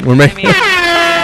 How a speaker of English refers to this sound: I was also super pumped when I came in the room and there was the air horn played at some point. I was like, yes, they have the air horn.